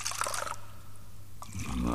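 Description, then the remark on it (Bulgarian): Wine is poured into a glass in a steady gurgling stream, with a brief splashy burst at the start and a rising, fuller tone toward the end as the glass fills. “Но ела преди това да изпием по чаша вино.”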